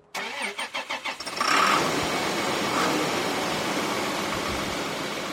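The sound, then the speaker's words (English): A hulking New Holland T8.275 tractor, started up by Todd Ray in the back lot of the SS Equipment dealership in Pasco, cranks with a quick series of rhythmic chugs, then catches and roars to life, settling into a loud, steady diesel rumble. No one speaks. “He starts up a hulking New Holland T8.275 tractor.”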